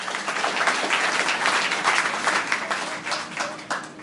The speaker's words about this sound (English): Yeah, we can applaud for the Lord Jesus.